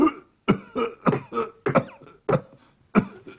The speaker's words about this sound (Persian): من از بیرون در صدای سرفه شنیدم، شما که از جاتون بلند نشده بودین